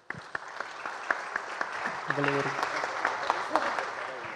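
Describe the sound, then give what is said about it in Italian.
An audience claps steadily for several seconds, a dense crackle of hands with a few sharper slaps, while a voice briefly rises over the applause partway through. “Non volevo rubare l'applauso.”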